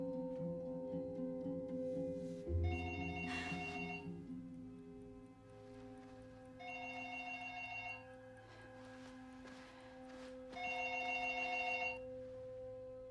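A telephone on a desk in a study with a computer rings three times, each ring lasting over a second with pauses of a few seconds between, clear over a steady low hum in otherwise quiet surroundings.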